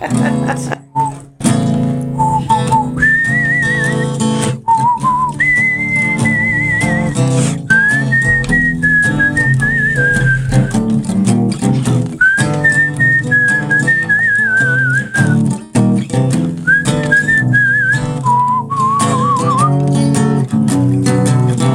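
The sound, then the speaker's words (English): A person whistles a melody in clear, sustained notes that rise and fall, carrying loudly over a dense, steady accompaniment for about twenty seconds. “Scientific fact, you cannot smile and whistle at the same time.”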